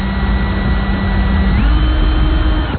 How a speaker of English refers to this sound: I'm going to drill a hole in the windscreen now. Let's see how skilled I am. Very good. How close I can come without actually drilling the actual microphone.